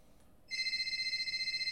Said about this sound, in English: What's that noise? Oh, it's the phone. Somebody pick up the phone. I'll have to do it myself. Why is nobody answering?